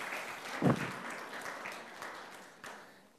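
An audience at a magic show applauds a volunteer with dense, steady clapping that swells briefly early on, then continues at a moderate level and gradually tapers off. No one speaks.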